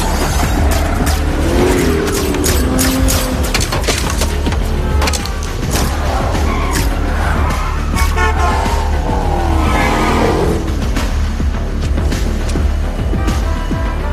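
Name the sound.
car driving off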